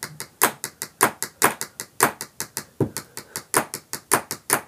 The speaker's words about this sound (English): Oh, I can pencil tap and you can, like, wrap it, okay? Wait, do what? I'm gonna pencil tap, like...